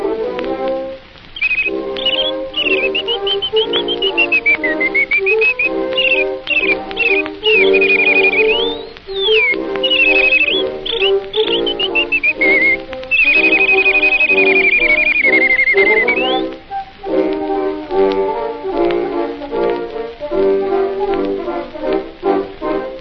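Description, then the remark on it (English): Someone whistles a lilting tune, clear and steady, over a full instrumental backing that keeps playing throughout. The whistled melody wavers and glides, carrying on for most of the passage. “And early every morning he'd go walking to his work, and he'd whistle up the same old tune.”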